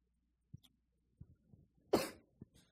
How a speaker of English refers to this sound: Excuse me, I have a cough, so I'm sorry. 很抱歉，我会咳嗽，请原谅。